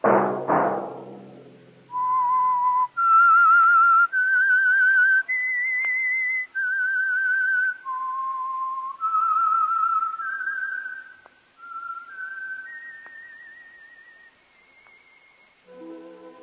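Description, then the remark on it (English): A lone whistled melody, the theme of the Signal Oil radio program The Whistler, of sustained, clear notes stepping up and down in a slow tune, starting after a brief low thump and fading softly at the end. “That whistle be your signal for the Signal Oil program, The Whistler, each Monday at 8.”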